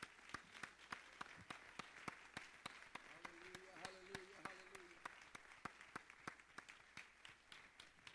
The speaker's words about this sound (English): Demos un fuerte aplauso al Señor. Let's give a loud hand clap to the Lord. Vamos más fuerte. Louder.